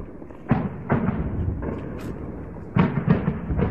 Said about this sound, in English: In this video posted by activists, machine gun fire and loud explosions can be heard in Deir al-Zour.